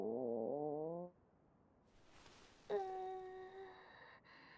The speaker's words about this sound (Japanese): さあ、何の音かしら。あんたのお腹が鳴ったんじゃないの？